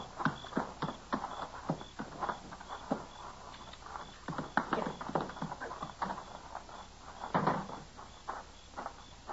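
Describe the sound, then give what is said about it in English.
Horse hooves clip-clop at an uneven, shuffling pace on a hard floor, a steady run of sharp knocks as the horse is led inside among stalls, with no one speaking. “Get his horse inside.”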